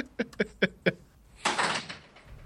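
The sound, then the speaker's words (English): A door is pulled shut: four quick, evenly spaced thuds, then a louder sustained scraping whoosh as it swings or slides closed, with no voices. “Just get out of here. Close that door.”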